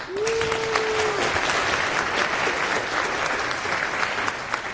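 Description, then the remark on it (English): An audience claps steadily and densely for the whole stretch, a sustained wave of applause welcoming a speaker before a talk about Rust in Mercurial, with a brief steady hum-like tone sounding over it near the beginning. “So please give him a welcome.”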